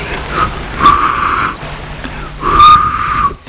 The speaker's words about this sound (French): L'homme siffle entre ses doigts.